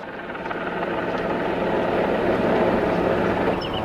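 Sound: helicopter flying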